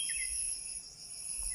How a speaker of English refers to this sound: All these crickets here come out after the rain. So they'll also hear the kirtan.